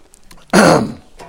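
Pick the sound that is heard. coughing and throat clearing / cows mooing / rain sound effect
coughing and throat clearing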